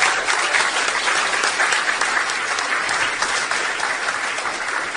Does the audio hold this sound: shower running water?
no